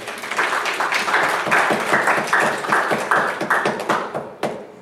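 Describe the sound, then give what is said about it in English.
An audience claps in dense, steady applause for several seconds after the speaker asks for a hand of applause, a loud patter of many overlapping hand claps that thins out and fades at the end. No one speaks. “Give a little hand of applause.”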